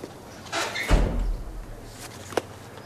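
A door swings shut with a solid thud and a brief rumble, followed by a faint click a moment later, as Diego closes the door and comes into a courtyard.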